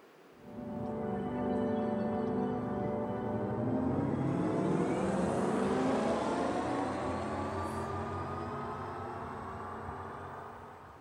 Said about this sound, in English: And now I would like to show you how a potential sound based on the sound genetics for electric cars could sound like.